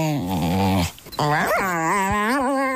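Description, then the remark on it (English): A 4-month-old puppy whimpers and makes drawn-out, wavering whiny vocalizations in response to its owner talking to it, with a brief pause before a higher, rising and falling moan continues; recorded on a phone. “I've never heard the kind of sounds from a dog that I hear from Seamus”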